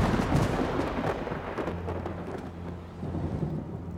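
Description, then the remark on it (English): Deep, rolling thunder of a storm rumbles continuously, loud, with a low sustained roar beneath a hiss like heavy rain. No voices are heard. “Let us withdraw. It will be a storm.”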